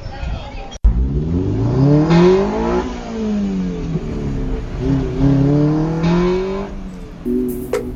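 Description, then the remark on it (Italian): A Lotus sports car engine revs up repeatedly as it sets off towards Radio X, its pitch climbing and falling through gear changes as it pulls away, loud, with a sharp click near the start. “E queste siete voi che partite dentro la Lotus, si sente il motore.”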